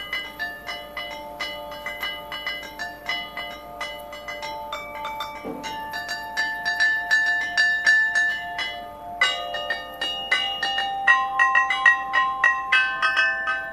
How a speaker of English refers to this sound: Sound familiar? Probably not. You're listening to the sounds of a tractor. She's affectionately known as the Mongrel. This musical tractor was the star attraction last September at the Kingaroy Tractor Tattoo.